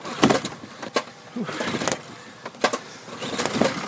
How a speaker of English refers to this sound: Not that easy to start this motor.